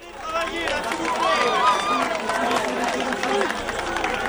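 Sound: crowd cheering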